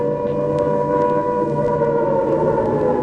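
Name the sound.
air raid siren wailing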